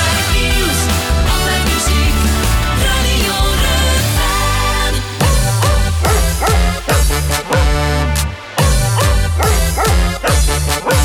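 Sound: keeshond dog barking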